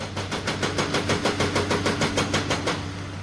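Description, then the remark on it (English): Heavy machinery works on rock along Route 52 in Elkhorn, McDowell County: a yellow backhoe knocks rocks from a mountainside while another construction vehicle drills through rock, a rapid, steady hammering of sharp bursts, about five or six a second, over a continuous low engine drone, with no voices. “A yellow backhoe knocks rocks from a mountainside as another construction vehicle drills through rock along Route 52 in Elkhorn.”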